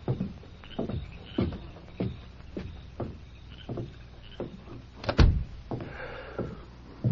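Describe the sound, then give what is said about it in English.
A door swings shut with a solid thump, preceded by a steady series of dull wooden knocks and creaks, with no voices. “Who was at the door?”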